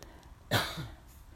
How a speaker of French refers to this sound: Et si vous toussez, essayez de tousser, votre plancher pelvien a besoin d'être tonique. Faites-le et sentez comment il peut remonter. Toussez encore.